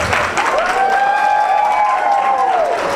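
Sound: loud audience clapping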